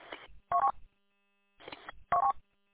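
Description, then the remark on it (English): Telephone keypad tones beep in two pairs as a phone call is dialed, each a softer tone followed by a sharper, louder one, with short silent gaps between them, clear with no voices. “We can get you on the phone now.”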